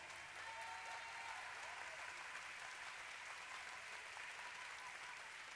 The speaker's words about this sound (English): Why don't you just to show, well, understand what I'm saying, just jump to your feet right now, clap your hands.